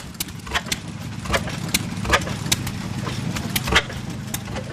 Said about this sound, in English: This is an oil field engine. Come out of north central Oklahoma.